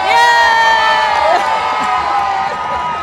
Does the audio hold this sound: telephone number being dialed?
no